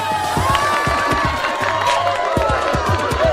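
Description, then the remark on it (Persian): A crowd of children cheers and shouts excitedly as a newly chosen representative is announced, many overlapping high voices forming a loud, continuous roar with scattered whoops and bursts of clapping throughout. “خیلی خوب بچه ها، آروم باشید.”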